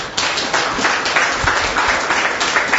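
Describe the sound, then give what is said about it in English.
A church audience clapping together after a prayer in a sustained burst of applause, dense and fairly loud, many hands blending into a steady wash of sound with no talking. “Let's give the Lord a clap offering.”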